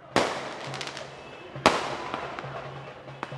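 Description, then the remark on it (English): Two sharp, loud bangs about a second and a half apart as pro-Gaddafi loyalists fire guns and fireworks in celebration while demonstrating in the streets of Tripoli, Libya, each followed by a long echoing decay, with fainter pops and crackles in between. “Pro-Gaddafi loyalists demonstrated in the streets after the statement, firing guns and fireworks in celebration”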